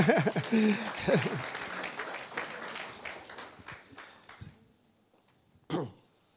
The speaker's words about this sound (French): On peut l'applaudir.